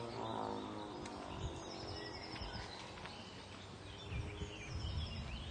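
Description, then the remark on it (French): A bird sings outdoors to assert its territory, its calls repeating over a dense, steady wash of natural background sound. No one speaks, and the song carries at moderate volume throughout. “Là, il est en train d'affirmer son territoire. Ça veut dire, je suis chez moi.”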